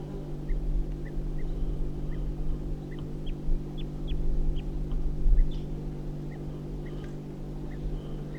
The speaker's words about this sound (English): So recording 8:54, back to the wild bird. Getting alarm calls again.